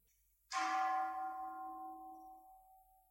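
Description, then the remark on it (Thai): A single bell is struck once, ringing out with a sharp metallic attack and a long, shimmering tone that slowly fades away over a few seconds, heard alone. “เห็นมันไหวบ้างไหมจะไหวอย่าว่าแต่เสียงระฆังกระทบหูเลยนะ”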